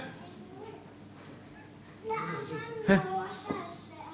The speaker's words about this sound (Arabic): وكل العيال دي بتشتكي من ايه بالظبط؟